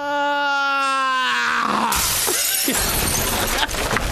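A long wailing cry slides downward in pitch, then a person slams head-first into the front of a car: a loud, harsh crash with shattering, clattering noise that keeps rattling afterward.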